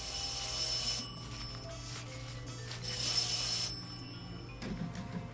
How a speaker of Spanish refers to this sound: ¡Ay! Es el teléfono de la terraza, qué inoportuno. No sé por qué me dio la idea de poner allí la extensión.